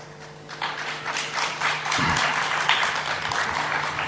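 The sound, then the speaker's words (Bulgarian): A crowd breaks into steady applause, a dense patter of clapping that swells slightly after a couple of seconds and keeps going at a fairly loud, even level, with a low hum underneath. “Аплодисментите закъсняха?”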